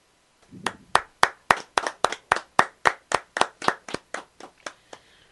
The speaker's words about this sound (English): You paused, and I was like, oh, hey, that's the end. I'll start to clap, and then nothing. You just keep going.